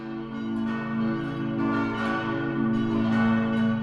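Church bells of St. Michael in Regen ring steadily and loudly, their overlapping tones blending into a sustained, resonant peal with repeated strikes and no voices.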